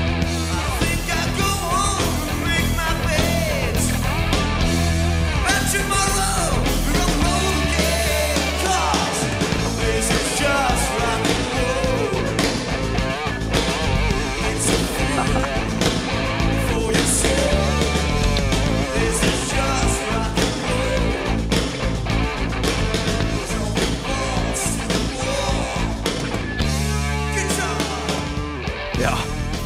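A heavy rock song from a 1985 NRK TV programme with Petter Nome plays at a steady, loud level for about thirty seconds, with driving drums, dense distorted guitars and a shouted vocal line throughout.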